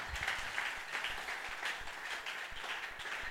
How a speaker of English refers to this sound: Acclame pour Jésus. Clap for Jesus.